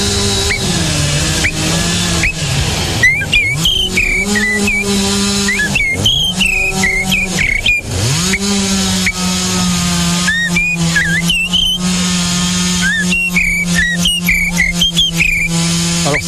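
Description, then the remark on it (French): A person whistles an imitation of a blackbird's song: repeated bursts of fluting, warbling phrases with quick pitch slides, set over a steady low droning tone that runs throughout, with brief pauses between phrases. “Le merle. Oui, celui-ci, effectivement, il est facilement reconnaissable, le merle.”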